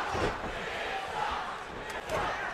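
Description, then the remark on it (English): A large arena crowd at a wrestling match roars and shouts continuously, a dense wall of voices with a few louder swells and brief sharp thuds near the end. “This crowd voicing their opinion of inside cradle.”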